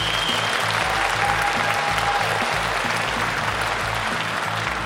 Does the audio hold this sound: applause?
yes